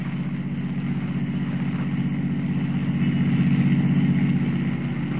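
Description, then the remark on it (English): A blue roadster's engine hums and rumbles steadily as a woman drives it off from the street, swelling slightly louder as it pulls away, then easing off a little, with no voices. “Keeping well hidden, Kent follows her to the street, watches her slide behind the wheel of a blue roadster, and drive off.”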